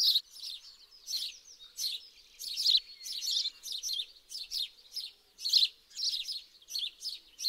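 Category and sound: bird, small birds chirping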